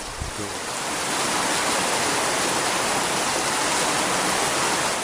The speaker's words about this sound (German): Am nächsten Morgen geht über dem Farmhaus wieder ein Platzregen nieder. Seit 10 Tagen regnet es nun schon, zum Teil sehr heftig. Der Regen aber, begleitet von bissiger Kälte, bringt nicht unmittelbare Linderung,